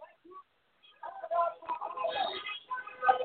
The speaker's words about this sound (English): We have some more people coming down the street right now, honking their horns right now. And can you hear them honking the horns right now, out in the streets right now?